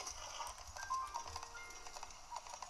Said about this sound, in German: Mein Pferd hat mich einfach abgeworfen. Ich verstehe es nicht.